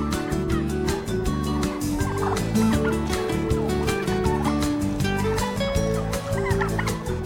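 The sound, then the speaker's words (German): A flock of farm turkeys, kept on pasture and fattened until slaughter, gobbles continuously, overlapping calls forming a dense, rolling chorus, with no pauses and no talking. “Auch die Puten werden bis zur Schlachtung bei extensiver Fütterung und Weidemast gehalten.”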